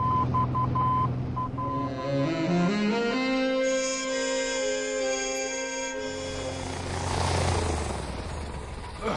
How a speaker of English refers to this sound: This is exciting, Lance, flying around in our own stolen plane.